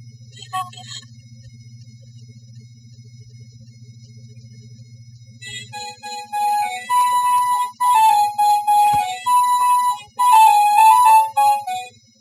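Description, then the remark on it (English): A thin, synthetic MIDI phone ringtone melody, one of many ringtones being browsed on a phone, plays after a few seconds of low electrical hum, its bright beeping notes stepping through a simple tune, fairly loud, with no voices. “Why would anybody even put that in a phone?”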